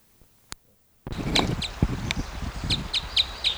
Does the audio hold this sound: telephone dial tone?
no